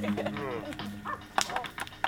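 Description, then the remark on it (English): A few short, sharp dog barks burst out over a tonal, voice-like warble, with the louder yaps landing near the end, fairly loud. “How do you turn off the barks?”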